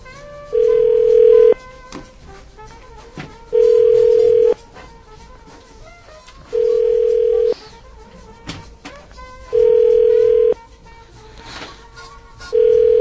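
A phone ringback tone repeats five times, each steady one-second burst followed by about two seconds of near-quiet, loud and clear as if heard through the handset.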